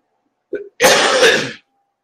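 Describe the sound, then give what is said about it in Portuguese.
A single loud, harsh cough bursts out, preceded by a brief voiced catch of breath, then silence. No one speaks. “Aí, não para de tossir, cara.”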